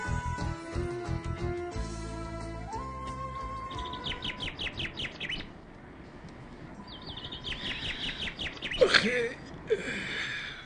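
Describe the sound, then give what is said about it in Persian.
A lively chorus of several different kinds of birds singing and chirping at once, with rapid repeated trills and high tweets layered over one another, continuous throughout. “هیچ جای دنیا مثل اینجا صدای پرنده‌های مختلف نمیاد.”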